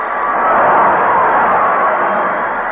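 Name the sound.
stadium crowd cheering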